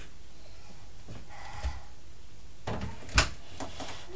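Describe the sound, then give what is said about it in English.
A door being shut: some soft handling knocks and shuffling, then a single sharp, fairly loud thud as it closes, with no talking. “Door. I'm shutting the door.”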